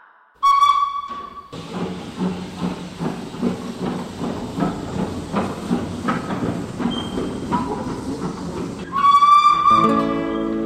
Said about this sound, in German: Meine Damen und Herren, Achtung an Gleis 10. Die Türen schließen selbsttätig. Vorsicht bei der Abfahrt.